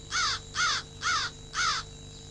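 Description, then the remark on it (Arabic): Crows cawing in four harsh, evenly spaced calls, each about a third of a second long, loud, with no other voices or sounds around them. “الغربان كلها متشابهة ويصعب أن تميزها من أشكالها، لكن يوجد غراب أقوى وأذكى من الجميع، لذا يصبح قائد السرب.”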